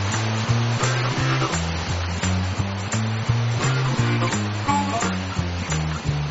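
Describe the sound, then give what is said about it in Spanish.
The 80-metre Manto de la Novia waterfall roars in a steady, dense rush that never lets up, loud, heard from a small cable car suspended 100 metres high facing it, with a rhythmic pulsing low tone running beneath it throughout. “Estamos suspendidos a 100 metros de altura, enfrentados a la cascada del Manto de la Novia.”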